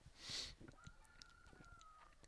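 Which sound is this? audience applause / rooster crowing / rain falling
rooster crowing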